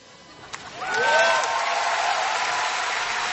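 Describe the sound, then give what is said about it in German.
On a live recording, a concert audience fills the space with a dense, sustained roar of many voices singing on after the performers suddenly stopped, swelling quickly after a brief quieter start and staying loud throughout. “Ja, das war eine Live-Aufnahme und sie haben plötzlich abgebrochen und das Publikum hat weitergesungen.”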